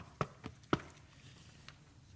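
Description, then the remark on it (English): Three quick, muffled knocks on a door, the last one a bit sharper, followed by a fainter tap, all fairly soft with no one speaking. “Did you hear a knock?”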